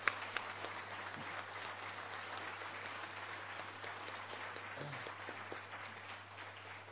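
Sustained applause from an audience, a dense, even wash of many hands clapping at steady loudness for several seconds, tapering slightly at the end, with no voices.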